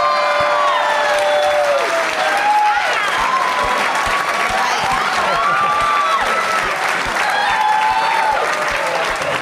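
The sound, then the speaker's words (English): Sustained audience applause for the answer Gremlins 2, a dense, steady roar of clapping with some whoops and cheers rising above it, loud and even throughout. “It's the biggest applause Gremlins 2 has ever gotten.”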